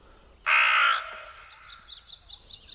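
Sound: raven cawing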